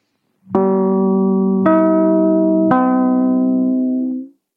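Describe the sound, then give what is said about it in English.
The NBC chimes on a radio broadcast, after the announcement of Jack Webb and Dragnet: three clean, bell-like tones struck in succession about a second apart, each ringing on with a mellow sustained ring, heard alone with no talking. “That NBC chimes are right on the money.”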